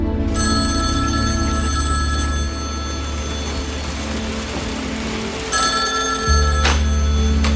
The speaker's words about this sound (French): Une jeune femme de Point Pleasant raconte à John Keel que tous les soirs à 17h précises, son téléphone sonne.